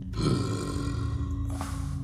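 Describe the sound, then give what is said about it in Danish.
A single loud, deep burp from a large animal after it takes a piece of cheese into its mouth, a long resonant rumble with a rough, guttural texture that lasts about two seconds, heard on its own. “Så slår den en kæmpe bøvs.”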